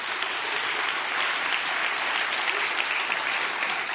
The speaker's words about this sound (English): Yes, would you please applaud what I just said? I appreciate that.